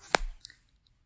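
A collar is buckled and fastened around a person's neck: one sharp click followed by a few lighter, softer clicks and faint rustle, with no talking.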